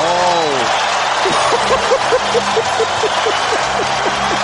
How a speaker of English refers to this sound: Listen to the crowd.